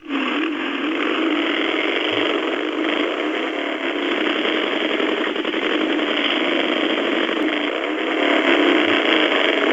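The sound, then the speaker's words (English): A loud motorcycle engine revs and runs continuously with a steady, buzzing drone, swelling slightly toward the end. No voices are heard. “That's revving.”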